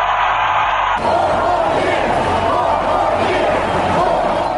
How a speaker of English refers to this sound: That was President Trump in Georgia for a rally in Valdosta, Georgia, Saturday, as a crowd chanting four more years, and you heard him say, they cheated, but we're still going to win.